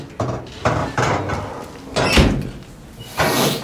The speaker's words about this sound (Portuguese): Tá, vem, fecha a porta.